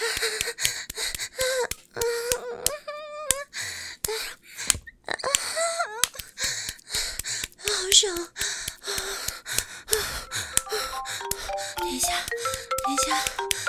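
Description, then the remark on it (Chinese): A short electronic mobile phone ringtone melody of stepped tones, a call from a husband, plays over breathy vocal gasps and moans, growing clearer toward the end. “手机响了，等一下，我看是谁给我打电话。”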